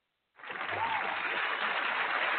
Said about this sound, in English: Of course, the audio for applause can never be too loud, can it be?